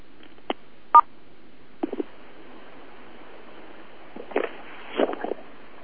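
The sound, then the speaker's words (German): An open telephone line, being switched on so callers can be heard, hisses softly while a few short touch-tone beeps and clicks sound at irregular intervals, clustering near the end. No one speaks. “Ich muss das Telefon ja noch freischalten, denn im Moment sind nur wir zu hören.”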